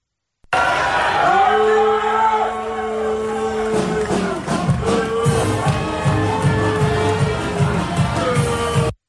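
A crowd boos a person leaving for a Terps Sweet 16 game: one long, low, steady boo is held for a few seconds, then more scattered boos and jeers carry on over the noisy crowd.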